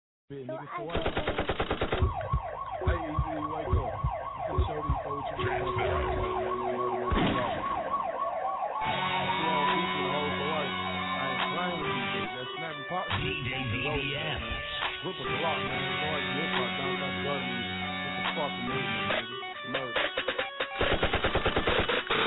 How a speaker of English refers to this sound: Next up, we got a track from your boy